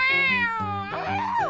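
A cat meows loudly, a drawn-out, whiny cry that slides down in pitch, breaks briefly, then rises and falls again in a second wavering call, with no talking.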